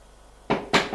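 Two firm knocks on a door, a quarter second apart, each a sharp, loud thud that dies away quickly, with no voices around them.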